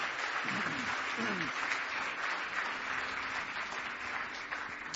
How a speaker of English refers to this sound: Give me one more hand clap of praise tonight.